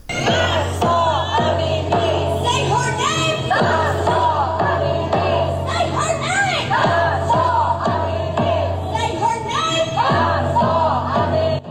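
A huge crowd of thousands of Iranians chants and shouts in unison at a Saturday rally in Washington, calling out the name of Mahsa Amini; rhythmic, loud and continuous, with massed voices rising and falling.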